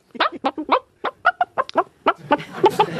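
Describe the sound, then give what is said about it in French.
A person imitates a hen, producing a quick series of short, choppy clucks in an irregular rhythm, fairly loud, with no other talking. “Vous avez imité la poule. Je vous ai vu imiter la poule.”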